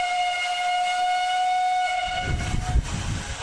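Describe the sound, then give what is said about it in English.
A steam train whistle sounds one long, steady, piercing blast. It fades into the low rumble and chuffing of the train, with no voices. “One of the first places I visited was the steam train to try and get the sound of whistle.”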